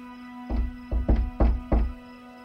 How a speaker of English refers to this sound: I knocked firmly but warmly, a friendly rat-a-tat-tat.